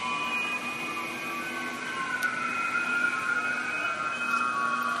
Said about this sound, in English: Stretch up, lean a little bit back, close your eyes, and we continue with long, deep whistling breath.